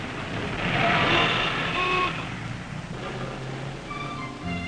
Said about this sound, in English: Look at that traffic on Fifth Avenue.